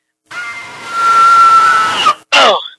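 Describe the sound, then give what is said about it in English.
A person lets out a long, loud, sustained scream that rises in pitch near the end, followed after a brief gap by a second, shorter shrill yelp. “Let me hear your scream.”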